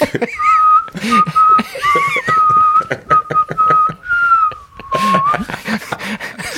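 A person whistles a melody, a clear steady tone moving through a simple tune for several seconds, with some background noise and voices underneath.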